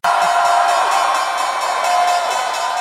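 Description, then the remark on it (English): A New York Stock Exchange opening bell rings steadily on Wall Street at the market open, rung by biotech firm Ginkgo Bioworks to celebrate its new listing, beneath loud, continuous crowd cheering and whooping that holds at a constant level throughout without pause. “The opening bell is sounding, you just heard it there, on Wall Street, as John Tuttle just mentioned.”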